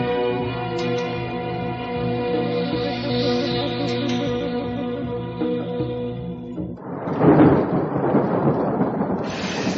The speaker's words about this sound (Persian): بارون داری خودتو میشوری یا میخوای ما رو سرما بدی؟